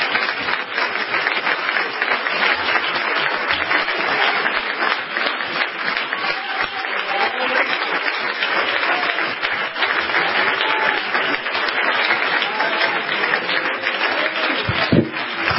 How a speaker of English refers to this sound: Could you give the Lord another good hand clap and I'll get comfortable.